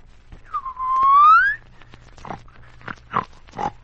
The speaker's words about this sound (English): That isn't a bear growling. It's someone snoring and whistling in his sleep.